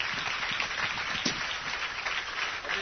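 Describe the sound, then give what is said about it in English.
A church audience applauding as a clap offering to God during a bilingual English-Spanish service, a steady dense patter of many hands clapping together with no individual claps standing out, holding an even level throughout with no voices heard. “And if you got something from God tonight, si recibiste del Señor algo, then give him a clap offering right entonces now. Vamos a darle un and aplauso.”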